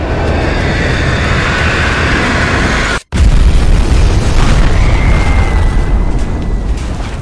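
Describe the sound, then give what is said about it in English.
A 4,000-pound bomb explosion: a loud, sustained roar of rumbling noise breaks for a split second, then a heavy, deep boom bursts in and rolls on without fading, with no voices. “that of those 4,000-pound Satan bombs, which shrieked in their death dive like an ungodly train whistle, and crashed in a sickening thunderclap that reverberated through the earth, vaporizing entire apartment blocks in its indiscriminate destruction.”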